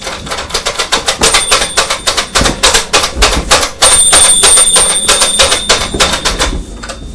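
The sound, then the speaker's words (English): A pet bird rings a small toy bell in rapid, irregular bursts of metallic clacks, with a thin ringing tone that lingers and swells in the second half, and no voices. “You enjoy ringing the bell, don't you?”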